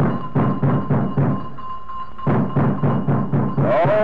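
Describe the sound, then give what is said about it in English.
Two policemen thump heavily and rapidly on the front door of a locked house in the morning, in two bursts with a short pause between, while the house's steady, high electric doorbell rings continuously underneath. No one speaks. “For 5 minutes or more, they rang the bell and thumped on the front door.”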